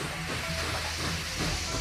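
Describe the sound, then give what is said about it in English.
A train slows down at a station at night: a steady, hissing rush with a low rumble and faint tonal hum underneath, fairly loud, with no voices. “At night, the train slows down at a station.”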